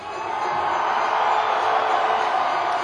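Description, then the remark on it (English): A large crowd at a show in Baltimore roars and screams for peace in the Middle East in a steady, dense wall of cheering that holds at full volume for about three seconds without a break. “So, I want to hear you scream for peace in the Middle East.”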